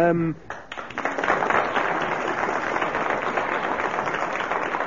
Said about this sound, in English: 3 seconds he kept going, so we must applaud him for his arduous attempts.